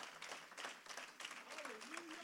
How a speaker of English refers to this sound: Would you give God a hand clap of praise tonight for hearing your prayers, for hearing your cry?